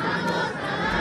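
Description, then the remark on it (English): A loud protest crowd chanting in unison at a peace walk for Adam Toledo in Little Village, Chicago, many raised voices blending into a dense, continuous roar that holds steady for about a second. “That sound is from last night's peace walk for Adam Toledo in Little Village.”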